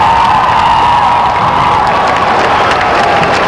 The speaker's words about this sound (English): Ooh, she may win the applause contest tonight.